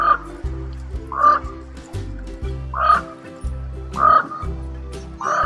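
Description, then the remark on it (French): A common raven gives five deep, hoarse croaking calls at a slow, steady pace, each clear, over a low steady hum in the background. “Et du corbeau, ici.”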